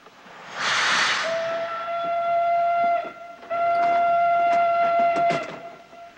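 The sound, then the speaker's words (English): A burst of steam hiss gives way to a loud, steady train whistle that sounds in two long blasts with a short break between, while the rumble and clatter of the departing train runs beneath. “Matthew and Marilla watch her board the train and sit by an open window.”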